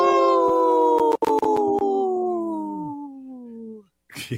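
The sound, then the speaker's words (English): A person imitates a wolf howl on Native Roots Radio with one long, loud, sustained note that drifts slowly downward in pitch, briefly breaking early on, then fades out before a short burst of noise. “Good howl there”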